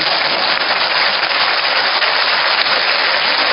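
Steady, loud applause from a crowd, a dense wash of many hands clapping at once that holds at an even level for the full few seconds, with no voices heard.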